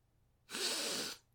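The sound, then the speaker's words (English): A single long sniff, a breathy rush of air drawn in through the nose for under a second, as a person smells Chinese food, lemon chicken, before eating it, loud against an otherwise quiet background. “Yes, I need to smell everything. Sniff, sniff, sniff.”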